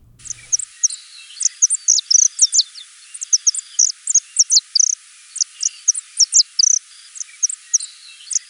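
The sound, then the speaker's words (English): Calls of a saffron finch, a golden-yellow songbird: a steady stream of short, high, bright chirps repeating quickly throughout, clear, with no voices. “Today we've got a bird named for its brilliant color, the saffron finch.”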